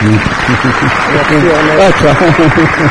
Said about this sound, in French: Amen. Amen. Et on applaudit le Seigneur.